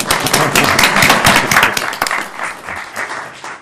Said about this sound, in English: Now give a round of applause. That was good.